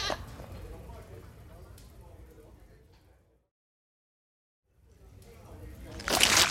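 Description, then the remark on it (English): A goat bleats in rough, wavering cries, fading out into a pause of silence before a louder, harsher bleat swells up at the end. “During the break, Windsprinkle's really, really been trying to eat this goat, and grapes are sort of standing there.”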